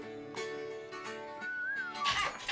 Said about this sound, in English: Oh, he said, come on over here. And he's whistling with him.